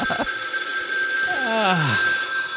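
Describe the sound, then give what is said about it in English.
A telephone left too close to the microphone rings loudly and very close, its bright electronic tone sounding steadily throughout, with a brief descending warble partway through. “Very loud. I guess I left the phone too close to the microphone.”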